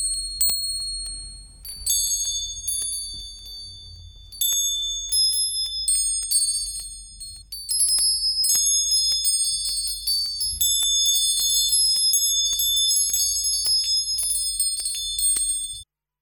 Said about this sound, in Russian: А можно послушать ваши колокольчики?